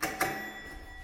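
A doorbell rings with two quick, bright metallic strikes, the second right after the first, and its clear tones hang and slowly fade. No one speaks.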